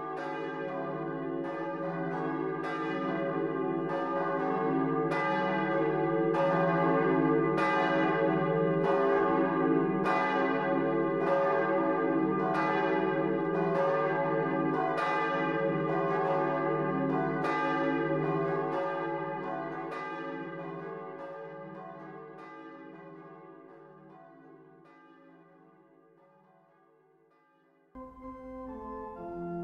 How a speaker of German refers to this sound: Doch zuerst begrüßen Sie die Glocken der St. Johanneskirche aus Lüchow.